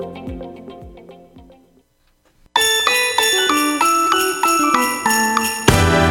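Sleigh bells jingle in a steady, rhythmic shake, bright, following a brief tonal musical phrase and a moment of silence.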